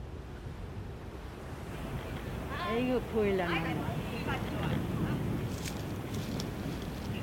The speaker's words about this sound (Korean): 바닥이 찰싹찰싹. 아이고, 파도구나.